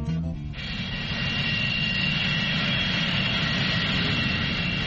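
A loud, steady airplane jet engine roar with a high whine on top, droning continuously after a brief tonal sound at the very start.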